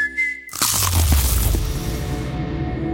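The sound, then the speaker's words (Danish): A loud crunch as teeth bite into a McDonald's McCrispy crispy chicken burger in an attempt at a silent bite, a sharp crackling burst followed by a softer, lingering rustle with no talking. “Det her var et forsøg på at tage en lydløs bid af den nye knasende kyllinge Burger McCrispy.”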